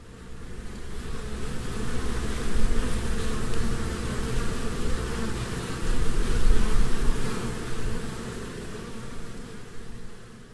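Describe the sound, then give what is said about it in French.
A dense, continuous hum of a honeybee colony buzzing inside a hive, low and droning, steady with gentle swells in loudness, with no voices. “À l'intérieur vit toute une colonie d'abeilles. Vous voulez entendre le bruit qu'elles font quand elles sont toutes ensemble?”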